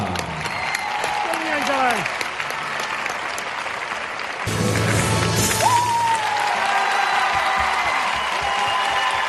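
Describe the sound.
Sustained applause and ovation from a large crowd at the Spanish Artistic Gymnastics Championship (Campeonato de España de Gimnasia Artística) during a gymnast's performance, dense and steady throughout, swelling louder about halfway through, with faint voices and cheers mixed in.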